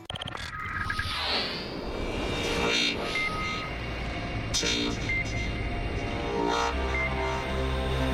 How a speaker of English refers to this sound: The sound of engines in the pit lane as we go green for a 20-minute warm-up session.